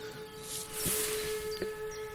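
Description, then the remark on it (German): Sirens wail in a steady, sustained drone with layered tones, fairly faint over a hissy background, heard from the Schlosspark in Werneck, with a couple of brief knocks partway through and no one talking. “Die Sirenen heulen los.”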